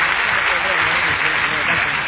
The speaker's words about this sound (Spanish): Dámelo fuerte aplauso en ese Cristo. Dios te bendiga. ¡Fuerte el aplauso a Jesús!